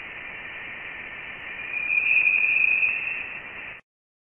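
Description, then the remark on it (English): Voyager spacecraft plasma wave data, recorded at audio frequencies between a few hundred and a few thousand hertz, played through a loudspeaker as sound: a steady electronic hiss with a thin, high whistling tone that swells in the middle, then fades before cutting off abruptly. “Nevertheless, because they occur at audio frequencies between a few hundred and a few thousand hertz, we can play the data through a loudspeaker and listen, says Gurnett.”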